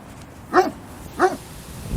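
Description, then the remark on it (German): A dog barks twice, two short sharp woofs spaced about half a second apart, clear against a quiet background. “Ich spreche jetzt mal mit dem Hund. Mal sehen, was er zu sagen hat.”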